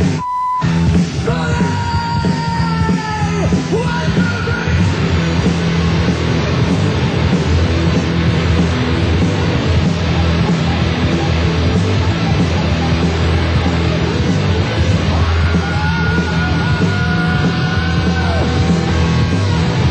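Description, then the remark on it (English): A loud, sustained roar of an audience screaming and yelling at a performer's call to scream fills the whole stretch, dense and chaotic without pause, with no clear individual voices standing out. “And if you feel like screaming your ass off, let me hear you scream.”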